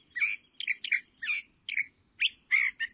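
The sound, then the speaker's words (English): A California thrasher sings a varied series of short, rich phrases, about eight in quick succession with brief gaps, clear, in evergreen chaparral shrubland in spring, with no voices. “The chaparral comes alive then with the songs of birds, among them this California thrasher.”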